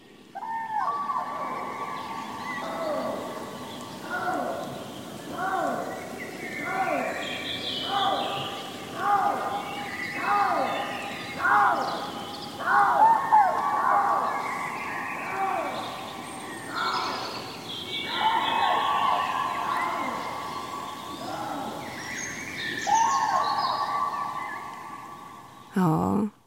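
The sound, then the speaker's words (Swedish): Common cranes give loud, repeated trumpeting calls in an overlapping chorus, mixed with the calls of a Eurasian lynx, all ringing out clear for nearly half a minute with no talking, in the Siggefora area outside Uppsala. “Och här är en häftig kombination som man kan få höra i Siggeforaområdet utanför Uppsala. Trana och lodjur.”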